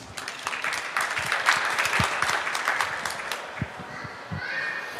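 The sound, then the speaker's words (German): A burst of applause from a small group before a panel question round begins. Dense overlapping claps hold at a steady moderate loudness for several seconds, thinning slightly toward the end. “Erstmal der Applaus.”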